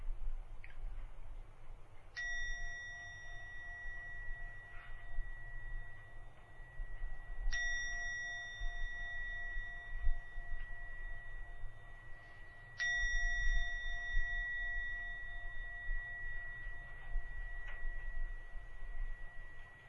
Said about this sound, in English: Now go to ring the gong three times. At the end of the third ringing of the gong, come out from your meditation.